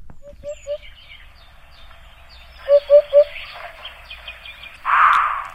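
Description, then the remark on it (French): A Eurasian hoopoe gives soft, hollow triple hoots, "oop-oop-oop", repeated twice in quick, even rhythm, with fainter chirping birds in the background and a brief rustling burst near the end. “C'est un oiseau magnifique, c'est la huppe faciée.”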